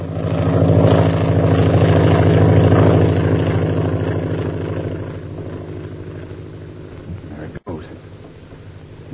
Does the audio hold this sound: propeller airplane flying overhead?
yes